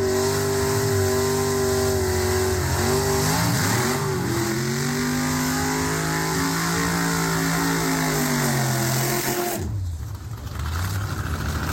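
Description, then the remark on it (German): Racing car engines rev loudly during a pre-race warm-up, not the race itself: a dense, droning roar with rising and falling pitch sweeps and heavy bass, cutting off briefly near the end before the engine noise resumes. No one speaks. “Das war übrigens genau dieser Warm-up. Also das war noch kein Rennen, das war wirklich nur der Warm-up.”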